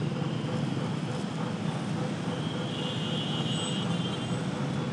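Dense, continuous rush hour traffic roar at a busy intersection in Jakarta, Indonesia, where four or five lanes converge into about three, a broad steady wash of engines, road noise and hooting horns, with faint murmuring voices mixed into the din.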